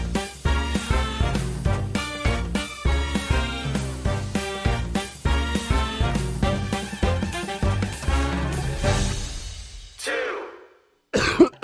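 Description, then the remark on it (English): A rhythmic music bed plays for about ten seconds, then fades into a couple of harsh coughs near the end, with a short pause between them. “Have you had a persistent cough for the last few weeks?”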